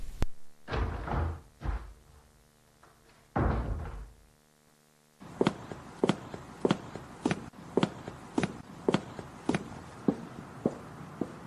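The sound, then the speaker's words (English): A few heavy thuds, then a steady run of crisp, evenly spaced footsteps of a woman coming home in the evening down a hallway, each step a sharp click, with no one speaking. “coming down the hall. I hear that every evening when she comes home.”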